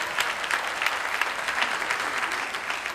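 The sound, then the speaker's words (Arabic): A crowd of Lebanese people gathered outside below a house applauds steadily for the full stretch, a dense, even patter of many hands clapping at once, loud, with no distinct voices standing out. “لا لا لا، هيدي الجماهير اللبنانية تحت بيتي هون واقفين سمعوني عم بحكي معك، تجمع ما في شيء.”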